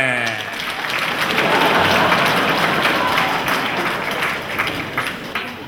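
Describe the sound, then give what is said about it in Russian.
An audience of soldiers bursts into loud, sustained applause welcoming a young girls' group onto the stage, dense overlapping clapping that holds steady for several seconds with a few brief tones at the start. “Встречаем бурными аплодисментами!”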